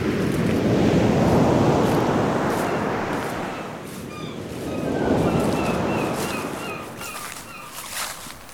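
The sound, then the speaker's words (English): Sea waves crash and roar below a cliff in two big swelling surges, loud, with wind noise and faint high chirping calls over the second wave. No one speaks. “Or I could go to the sea. I could stand on a cliff and watch the waves.”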